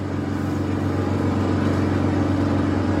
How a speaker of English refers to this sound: Hang on, I gotta shut the window. Somebody's mowing.